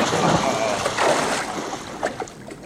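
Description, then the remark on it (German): Water splashes and sloshes in several irregular bursts as Benjamin the elephant and Otto romp around in the water, with a steady wash of watery noise between the splashes. “Benjamin und er toben im Wasser herum, bis ihnen die Puste ausgeht.”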